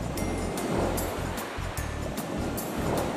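ocean waves

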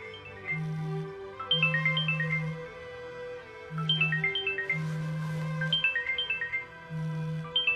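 mobile phone ringtone ringing

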